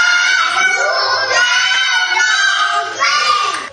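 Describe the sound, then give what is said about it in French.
Several young children, newly enrolled kindergarten pupils on the first day of school, wail and cry loudly at once as they are separated from their parents. Their high, strained voices overlap continuously with no pause for nearly four seconds. “La maternelle, les nouveaux inscrits sont en larmes.”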